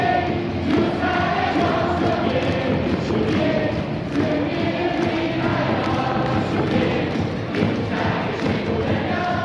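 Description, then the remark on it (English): A loud, dense crowd of fans at a KBO baseball game roars and chants continuously, with rhythmic thumping like drums or thundersticks driving a steady beat under the mass of voices. “I think, you know, people watching on ESPN right now in the U.S., they're really missing out on the fan atmosphere in the KBO.”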